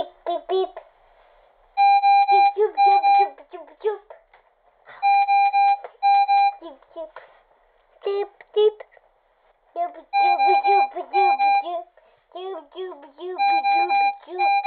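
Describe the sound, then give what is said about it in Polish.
A home breathing machine keeping a child breathing beeps in repeated bursts of steady, mid-pitched electronic tones, each burst lasting a second or two with brief gaps between, while voices talk throughout. “bo one brzmią jak po prostu jak ojom, jak oddział intensywnej terapii, a jednocześnie w połączeniu z oddechem dają spokój rodzicowi, że rodzic może spokojnie spać, bo są te dźwięki. Czyli ta maszyna pracuje, czyli dziecko oddycha.”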